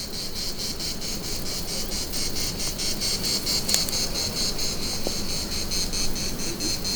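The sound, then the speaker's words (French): A dense, steady chorus of cicadas clinging in the branches of broadleaf trees, chirring with a fast pulsing buzz, continuous and filling the air without pause, with no voices present. “Des cigales.”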